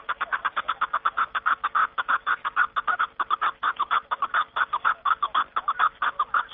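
himalayan snowcock calling

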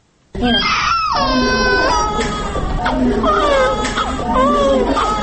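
newborn baby crying

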